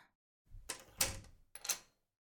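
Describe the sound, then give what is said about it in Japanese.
A front door is pushed shut with a solid thud and brief rattle, followed a moment later by a sharp metallic clack of the lock turning, with no voices. “相手してやるから、玄関鍵かけて上がってきて。”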